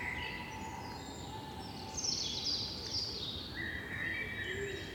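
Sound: wild birds singing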